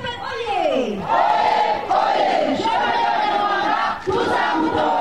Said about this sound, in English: At a rally, a crowd cheers wildly when Kagame takes the podium.